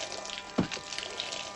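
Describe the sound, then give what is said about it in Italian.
Water pours out in a steady, hissing stream where diesel fuel was expected, with one brief, fuller splash partway through. It is fairly quiet, with no voices. “Ci hanno venduto l'acqua invece della nafta!”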